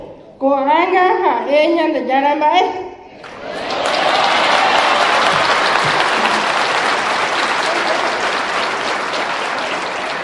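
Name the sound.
audience applauding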